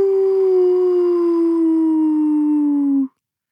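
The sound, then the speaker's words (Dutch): A dog lets out one long, mournful howl, loud, holding a steady pitch that slowly sinks before cutting off after about three seconds, with nothing else around it. “Toen haalde hij diep adem, helemaal vanuit zijn tenen, en zong hij het lied van de eenzame wolf.”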